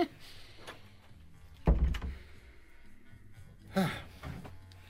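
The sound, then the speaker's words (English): A door thuds shut with a heavy low thump, followed a couple of seconds later by a second solid knock, against a quiet background. “Oh, leave the door”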